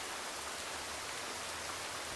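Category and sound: nature, rain falling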